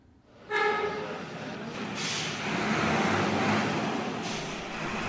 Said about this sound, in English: This is Pakistan's largest truck terminal in West Karachi. Relaxing between shifts, the drivers are spread out on a raised platform, sipping hot tea at what's called a dhaba, a small roadside tea shop.